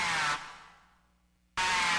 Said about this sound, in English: The aggressive snarl of the Eastern Fighting Turtle can carry for up to 5 miles across still water.